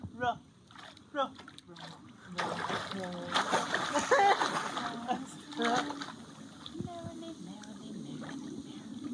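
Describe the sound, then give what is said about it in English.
Steady splashing and sloshing of water from a teenage boy's kicking feet in a pool as he holds onto his instructor's back, loudest in the middle, with voices talking faintly in the background. “A teenage boy holds onto his instructor's back in the pool, kicking his feet behind him.”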